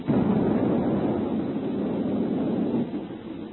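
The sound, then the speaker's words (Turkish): An unknown spaceship blowing apart under laser fire, heard as a loud, sustained low rumbling roar that holds steady for about three seconds before easing off, with no voices. “Meçhul gemi parçalandı komutanım.”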